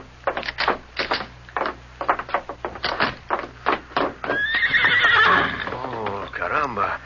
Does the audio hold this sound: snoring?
no